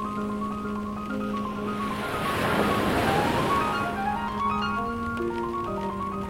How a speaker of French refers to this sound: Dehors, il pleut. Par la fenêtre, les vagues sont de plus en plus grandes. Et l'île d'en face disparaît peu à peu. On entend le vent.